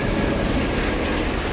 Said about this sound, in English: That I've been hearing in the subway since I was a younger person, probably since I was in middle school. It's a sound that you hear when you're standing on the platform and a train is just about to leave the station.